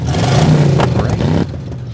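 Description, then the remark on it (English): A loud synthetic car engine sound from the engine noisemaker of a GR BEV electric car revs with a throaty, rising drone, then cuts off sharply partway through, leaving a quieter lingering hum. “Yeah, they're going to have an engine noisemaker.”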